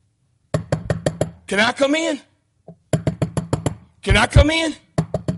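Two bursts of quick, firm knocking, about five sharp raps each, loud, with a person calling out briefly after each round.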